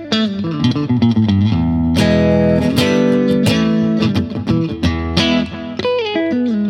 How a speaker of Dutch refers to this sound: Dan hoor je dat het een echo is.